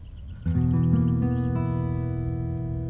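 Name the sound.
birds chirping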